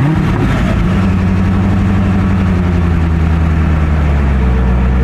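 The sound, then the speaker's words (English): The engine of a new Corvette C8 convertible sports car rumbles loudly, a deep throaty drone that holds steady with a slight rise and fall in pitch, with no voices over it. “I bought a new Corvette.”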